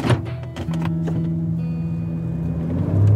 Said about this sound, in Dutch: In de auto, op de weg terug naar de redactie, zetten we meteen de recorder weer aan.